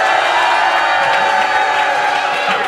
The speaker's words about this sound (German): Also ihr könnt euch selber jetzt noch einmal dann jubeln hören im Radio. Bitteschön.